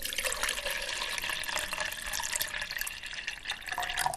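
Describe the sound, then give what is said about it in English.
Hot boiling water is poured in a steady stream into a bucket with flower petals, a continuous splashing, gushing rush that stays fairly even for the whole stretch, with no one talking. “What you do then is you pour hot boiling water in.”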